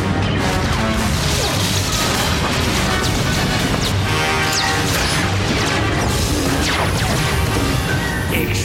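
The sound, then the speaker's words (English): A loud, unbroken barrage of explosions in the video game Star Wars: The Old Republic, Hammer Station Flashpoint, with crashing impacts, deep booms and occasional whooshes piling on top of one another for the whole stretch, with no one speaking. “Explosions!”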